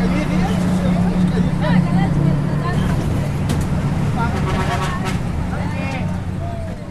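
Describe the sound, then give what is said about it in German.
A steady low engine drone of a bus riding up from Panajachel to the plateau around Lake Atitlán toward Sololá, with muffled voices chattering and occasional clanks and rattles over a continuous loud hum. “und nehmen schließlich den Bus hoch hinauf auf die Hochebene, die den Lago Atitlan umsäumt, nach Sololá, in die Provinzhauptstadt.”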